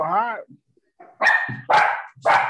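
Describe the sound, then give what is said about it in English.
A dog gives a brief whine, then three sharp, loud barks follow in quick succession with short pauses between them. “Get your dogs, lady, please.”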